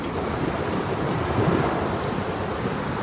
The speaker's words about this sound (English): When you're wearing this with headphones and working on the Mac, this is just glorious just to have in the background. I feel like I'm sitting on a rock or on a cliff and just letting the water run past underneath me.